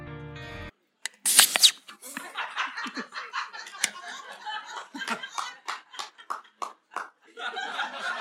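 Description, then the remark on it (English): After a short tone, a voice imitates a beer can opening with a sharp mouth pop and a brief hiss, followed by a run of choppy snickering laughter, at a live recording in Manchester. “That was meant to sound like a beer can opening, as per our live streams.”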